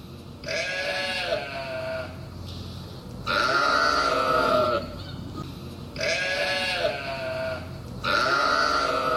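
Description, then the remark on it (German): A large flock of sheep that grazed a landscape park and had its night quarters right next to a settlement bleat in the evening in overlapping, drawn-out calls, one after another in a steady sequence, loud, with a faint low background hum underneath. “Es gab nämlich eine große Schafherde, die da diesen Landschaftspark gemäht hat und die hatte das Nachtquartier direkt neben dieser Siedlung.”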